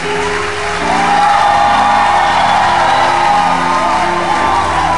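A large audience claps steadily and enthusiastically for two people, mixed with loud whoops and shouts that swell after the first second and hold at a full, sustained roar with no break.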